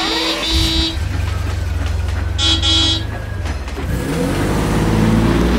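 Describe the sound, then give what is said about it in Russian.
A car horn honks in two short bursts over a low, steady engine rumble, then the engine revs up and roars louder as the vehicle pulls away. “Садимся в машину.”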